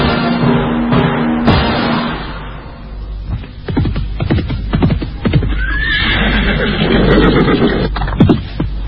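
A horse neighs with a loud, wavering whinny at the start, followed by a series of irregular hoof thuds and shuffling, with another brief neigh later on.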